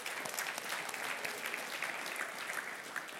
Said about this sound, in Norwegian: En applaus for Jesus I dag.